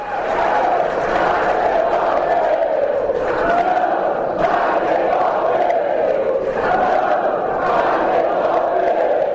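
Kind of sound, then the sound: crowd, crowd shouting slogans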